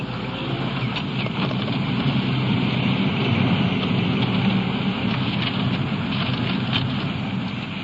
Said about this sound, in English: It's getting late in the evening, and the possibility of rain I mentioned earlier is here now. In fact, it's coming down pretty hard.